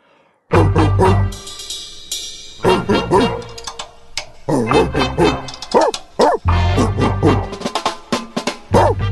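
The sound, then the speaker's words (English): A dog barks loudly and repeatedly, a rapid series of sharp bow-wows mixed with higher yips, continuing for several seconds with only brief pauses. “Here, bark it with me.”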